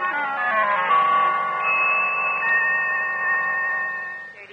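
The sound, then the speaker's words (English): A telephone bell rings loudly and steadily for several seconds, a bright, sustained metallic ringing that fades slightly at the end, with no voices. “Oh, there's the phone bell.”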